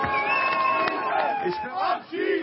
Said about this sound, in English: Kick them out, chanted the crowd.